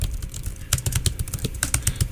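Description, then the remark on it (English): Close-miked typing on a computer keyboard as someone types a search to look something up, a quick irregular run of crisp clacking keystrokes with a low rumbling hum underneath and no one speaking. “Can you bring the mic closer to your keyboard so the listeners know that you're looking it up?”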